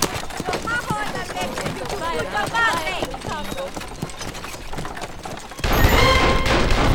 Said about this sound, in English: The shots came from behind the house.